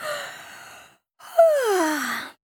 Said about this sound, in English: Porcupine rolling, crocodile running, elephant bumping, and my jumping has made me very tired, said Sloth Bear with a big yawn.